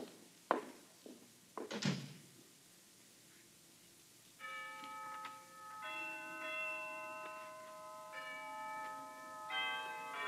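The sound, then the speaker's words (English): A few dull knocks and a door-like thud, then the Harkness Tower bells chime noon several times in succession, each strike ringing with a long, resonant hum that overlaps the next. “Down from the Harkness Tower floated the chimes of noon, unheeded by the busy undergraduates piling out of classes, criss-crossing the campus as they dashed for eating clubs and fraternity houses”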